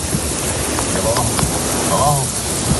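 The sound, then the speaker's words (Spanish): Heavy April rain in Lanzarote, Canary Islands, brought by storm Oliver and hitting Arrecife, Teguise and San Bartolomé, pours down with rushing, running water in a dense, steady hiss that never lets up, while faint voices murmur briefly underneath. “Así sonaban las lluvias caídas en Lanzarote y que ha afectado sobre todo a los municipios de Arrecife, Teguise y San Bartolomé.”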